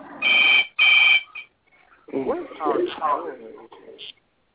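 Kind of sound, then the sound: signal or alarm, telephone ringing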